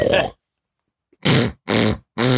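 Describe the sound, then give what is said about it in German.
A person imitates a pig with four loud grunting bursts: one short snort, a pause, then three longer throaty grunts in quick succession. “Was ist das denn für ein Schwein?”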